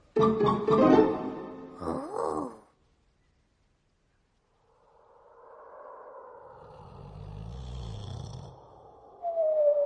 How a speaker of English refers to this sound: One snowy night, when the Gruffalo snored, the Gruffalo's child was feeling bored.